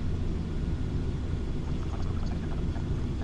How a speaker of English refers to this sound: Yeah, the plane sound that I'm using. So far the plane is flying great, though. I don't mind the sounds. They're a little gentler on my ears.